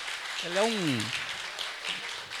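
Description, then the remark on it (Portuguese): A crowd applauds steadily throughout, a dense wash of clapping, and early on a single voice lets out a brief rising-and-falling cheer over it. “Merece uma salva de palmas.”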